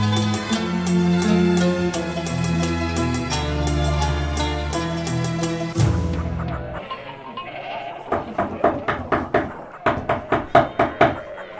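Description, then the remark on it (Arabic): Steady, sharp knocks on the door of the house of the Prophet Muhammad come in two bursts of rapping near the end, following several seconds of sustained, wavering tones. The knocks are loud. “طارق باب رسول الله، السلام عليه.”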